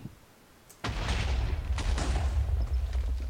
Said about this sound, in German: Jetzt mache ich hier nochmal eine Vierer-Explosion. Und hier eine Vierer-Explosion. 1, 2, 3, 4. Beginnen wir mit dieser Explosion.